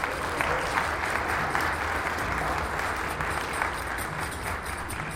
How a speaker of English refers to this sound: All right, round of applause for